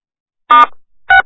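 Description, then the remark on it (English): Two short telephone keypad tones from pressing star and six on a phone line to unmute it, each a brief electronic beep about half a second apart, fairly loud, with no one speaking. “All you got to do is hit *6 on your phone line.”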